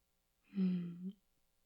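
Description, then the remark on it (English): One heavy, voiced breath, fairly loud, lasting under a second. It has a panting, sighing quality and is surrounded by silence, with no one speaking. “Gosh, you're panting.”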